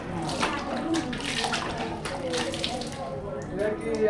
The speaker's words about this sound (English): and so she heads into the shower stall and just dumps the cold water over her head.